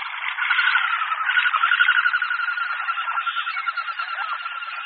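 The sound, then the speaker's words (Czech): Wing whistling of a flying common goldeneye duck, a mechanical sound made by its flight feathers rather than its voice: a steady, mid-high whirring whistle with a fast rhythmic pulse, fairly loud and continuous for about five seconds, with no voices. “Je to mechanicky vznikající zvuk, který vyluzují letky letícího hohola severního, jedné z našich vzácnějších kachen.”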